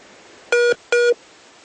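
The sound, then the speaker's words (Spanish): Two short, identical electronic beeps sound a moment apart over a faint line hiss, the kind of call-waiting tone that cuts into a phone conversation. No one speaks. “Sonido, pero se le corta la llamada cuando le entra una llamada.”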